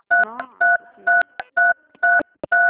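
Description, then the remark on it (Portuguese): Six bursts of telephone keypad tones, each a steady two-pitch beep about a fifth of a second long, spaced in a loose rhythm, as a woman on a phone call presses the telephone keys, with a faint voice murmuring between presses. “Eu acho que a senhora está apertando as teclas do telefone.”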